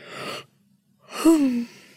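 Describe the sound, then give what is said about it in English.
A person yawns: a breathy intake, a brief pause, then a long voiced exhale that slides downward in pitch and trails off. No speech. “All this talk of yawning is making me have to...”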